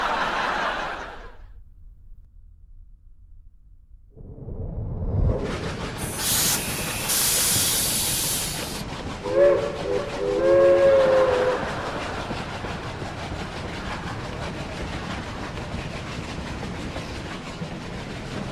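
A steam engine lets out a loud, sustained hiss of venting steam, followed by a brief tonal whistle over a steady mechanical rumble, with no one talking.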